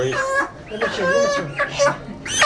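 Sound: chickens clucking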